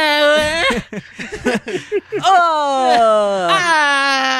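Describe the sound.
A voice imitates a drawn-out, anguished death scream from the video game Max Payne 1, the screams heard when killing someone: a loud, high wail that breaks into choppy sobbing cries, then rises again into a long, strained, descending howl.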